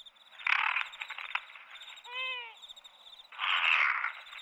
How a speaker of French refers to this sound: Pff, là, c'était un hibou. À ne surtout pas confondre avec les chouettes. Eux, ils ont tous des aigrettes sur la tête.